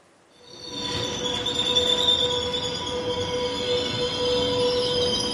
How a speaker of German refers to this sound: hat nämlich im Intercity Neigezug von Zürich über Olten und Solothurn auf Biel im Führerstand dürfen mitfahren und hat dort ganz hautnah mitbekommen, wie anspruchsvoll die Arbeit eines Lokführers heute ist.